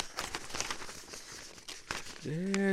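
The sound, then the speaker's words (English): A paper script rustling and crinkling, a quick series of dry crackles and rubs over a couple of seconds, before a voice starts to speak at the very end. “Let's see, let me get the paper, my script, songs.”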